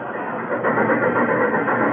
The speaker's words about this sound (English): Hey, that train was really flying this morning. Yeah, it must have been doing at least 60 through the living room.